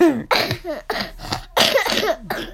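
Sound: child coughing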